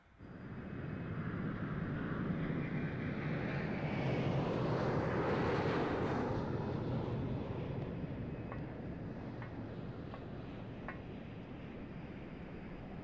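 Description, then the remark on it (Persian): A steady airplane engine roar that swells louder around the middle, as if a plane passes overhead, then fades to a sustained rumble. No voices. “شوالیه، سفر با هواپیما چطور بود؟”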